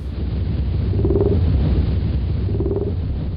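Fin and blue whale calls at around 18 hertz, once attributed to the so-called Jezebel monster: a deep, steady rumble with two short tonal moans repeating about a second and a half apart, no voices.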